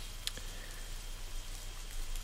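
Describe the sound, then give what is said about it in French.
Rain falls steadily as a soft, even hiss with a faint low hum beneath it, and one sharper drop lands near the start. No one speaks. “Ah si, ben voilà, j'avais pas monté la pluie avec les trains, là. C'est superbe, ça.”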